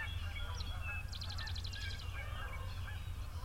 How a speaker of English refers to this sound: That's two large flights of Canadian geese.